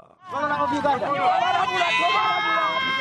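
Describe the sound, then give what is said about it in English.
A crowd of hundreds of rally fans by the roadside at Chabakuza village, Masaka district, central Uganda, cheers and shouts for rally drivers during the Southern Motorsport Club Challenge Rally, many raised voices overlapping in a loud, steady roar that swells in after a brief quiet start and holds for about three seconds. “Hundreds of fans stand by the roadside to cheer up their favorite rally drivers at Chabakuza village in Masaka district of central Uganda during the just concluded Southern Motorsport Club Challenge Rally.”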